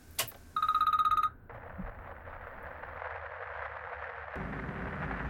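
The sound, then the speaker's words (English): A telephone rings in one short, rapid electronic trill, loud, after a brief thump, then gives way to a steady wash of hissing static and low rumble. “Last night, I received a call that completely threw me off my guard.”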